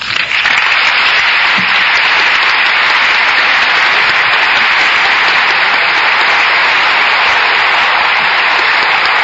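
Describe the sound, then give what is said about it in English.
Sustained, loud applause as Congress rises in the chamber of the House of Representatives after President Nixon's speech asking support for his new economic policy, a dense, steady wash of many hands clapping that holds its intensity throughout without pause or any voices standing out. “Congress rising and applauding President Nixon after his speech asking their support on his new economic policy.”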